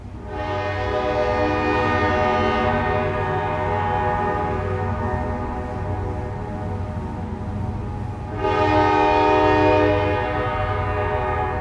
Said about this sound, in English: The train whistles through the autumn hills of Logan County tell the recent history of the southwestern part of the state. You can count 97 cars full of coal rolling slowly through the town of Logan.